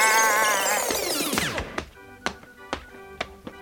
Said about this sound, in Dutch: En om een lange vechtpartij kort te maken, spoelen we even snel door naar het moment dat oom Henk bij de spaarbank arriveert. Doorspoelen!